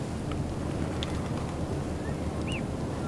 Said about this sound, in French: Où sommes-nous? Bord de mer. Je vous propose, en fait, une carte postale sonore plutôt touristique.